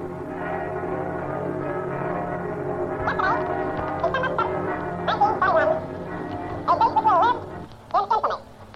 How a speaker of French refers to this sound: Exactement 22h25. Allez, les cloches. On entend les cloches de notre quartier.